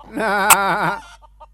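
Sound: goose honking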